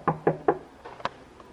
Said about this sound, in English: I knock on the door.